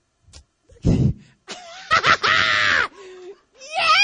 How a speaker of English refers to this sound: Yeah! See? Y'all don't know why I scream the way I do. Y'all just don't know.